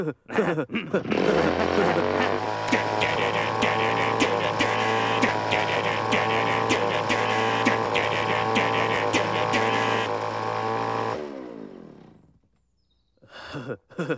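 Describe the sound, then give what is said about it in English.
A chainsaw roars loudly and steadily for about ten seconds, its engine droning without letup, then cuts out abruptly into a short silence before a brief noise at the end. “Yeah, this chainsaw kicks ass.”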